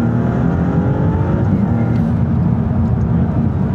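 sports car engine revving

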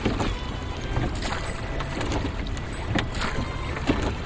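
rowing a boat

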